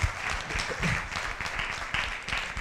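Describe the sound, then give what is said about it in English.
A crowd applauds a volunteer who came up to the mic, steadily, a dense wash of many hands clapping at a moderate, even volume throughout, with no pauses. “A round of applause.”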